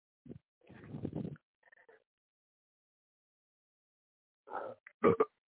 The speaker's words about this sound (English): Man, you know what, you a gross mother. Don't be belching in my face, man.